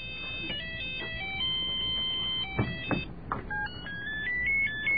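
A ringtone from an old mobile phone plays a quick, bright electronic melody of stepping high tones, heard at moderate volume with a little background rumble and a couple of brief knocks.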